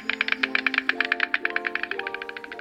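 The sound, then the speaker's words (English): A stork clatters its bill in a rapid, steady burst of dry wooden knocks, fairly loud, with a faint sustained tonal hum underneath. “And the stork is the bringer of new life.”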